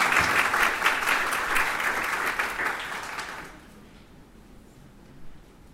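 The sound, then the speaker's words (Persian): An audience at a gathering claps steadily for itself in a dense, crackling burst of applause that stays strong for about three and a half seconds, then cuts off into quiet. “به خاطر اینکه جلسه اون انگیزه لازم رو داشته باشه، خودتون رو دوستان تشویق بفرمایید تا در خدمتتون باشه.”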